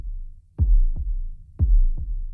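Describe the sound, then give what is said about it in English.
A deep, booming heartbeat opens the first track of an album, thumping out two lub-dub pairs in slow, steady rhythm, loud, with a low rumble between beats and no voices. “The first track, which starts with a heartbeat.”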